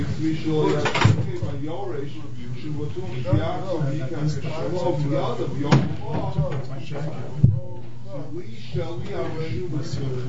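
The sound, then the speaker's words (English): A door is opened: a few sharp knocks and clunks of the latch and frame stand out over nearly continuous talking. “I open the door, it's a bit stuffy.”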